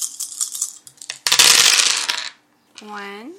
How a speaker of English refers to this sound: Give me a roll for the ball. Just roll your 8 dice.